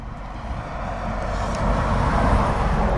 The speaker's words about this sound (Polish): Tir niech przejedzie, żeby można było spokojnie porozmawiać.